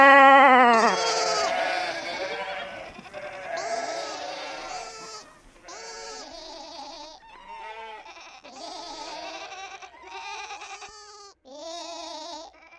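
A chorus of sheep bleating, many overlapping wavering calls in steady succession, fairly loud, with no talking.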